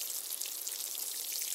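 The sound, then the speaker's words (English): A steady, soft patter of water sprinkling down onto garden soil over newly planted seeds, a hissy shower of many tiny drops that continues evenly throughout with no voices. “Next, they need some water.”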